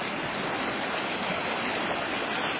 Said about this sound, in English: Walking down to the creek. The waterfalls all along. Rushing through roaring water.